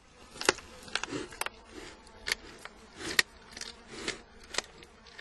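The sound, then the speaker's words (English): A real Tasmanian devil eating its lunch crunches and gnaws on bones, with sharp irregular cracks and crunches over low snuffling and growling snarls. There is no talking. “They usually eat as a group, snarling, snuffling, and chewing, as you can hear from this NPR recording of a real Tasmanian devil enjoying his lunch, bones and all.”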